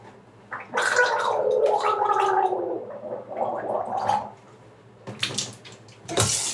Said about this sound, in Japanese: うがいするとき声出した方がいいってなんかで聞いたので、あーとか言ってます。